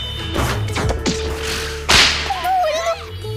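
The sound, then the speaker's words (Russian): A quick swishing swing of a bat ends in a sharp, loud crack of impact, followed by a brief ringing tone and scattered softer knocks in the background. “Я стукну, чтобы ты пришла в себя! Откуда ты биту достала?”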